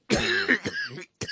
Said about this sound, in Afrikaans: Oh, dit is nogal 'n hoesie wat jy daar het, jongen.